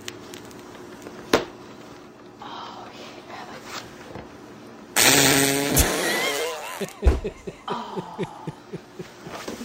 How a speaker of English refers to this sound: And then she starts farting on top of the cake. Well, she lifts her ass up off the cake and then starts to fart.